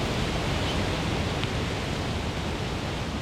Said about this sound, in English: That rushing sound is the Motu Falls, located about an hour northwest of Gisborne.